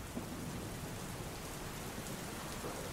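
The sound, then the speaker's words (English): Steady, heavy rain pours down continuously, a dense hiss of drops hitting surfaces, with a low rumbling undertone throughout and no voices. “I actually like the rain.”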